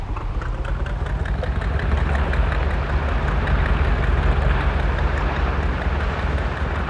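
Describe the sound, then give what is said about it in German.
A motorboat engine drones steadily at night, a continuous low rumble with a churning texture that stays at an even loudness throughout, with no voices. “Da ist jemand in einem Motorboot.”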